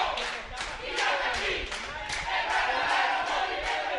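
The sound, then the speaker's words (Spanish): A crowd of pro-government students shouts slogans at the former headquarters of the newspaper El Nacional, in loud, rhythmic unison, repeated bursts of voices rising and falling roughly twice a second, with scattered clapping mixed into the steady roar. “Además, anunció que en este lugar funcionará una universidad de las comunicaciones y desde este lunes, estudiantes oficialistas se encontraban en el lugar gritando consignas.”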